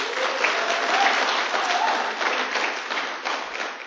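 An audience at an evening church gathering applauds after a time of praise and prayer. Many hands clap steadily in a dense, continuous patter that stays fairly loud throughout, with a faint voice or two mixed in.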